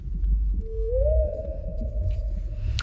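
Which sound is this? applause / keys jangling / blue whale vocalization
blue whale vocalization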